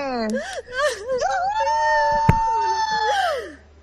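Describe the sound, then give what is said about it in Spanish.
Ray Zapata lets out a long, loud, high-pitched excited scream with wavering pitch, sustained for several seconds, with a brief thump partway through and background noise beneath. “Ese tío que grita es Ray Zapata.”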